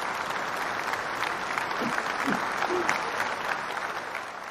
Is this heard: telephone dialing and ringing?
no